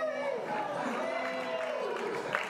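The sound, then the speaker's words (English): A crowd cheers and whoops steadily for a guest being introduced, with raised voices blending into a continuous, fairly loud roar of excitement that holds without a break. “I bet you they're gonna cheer louder for you, though.”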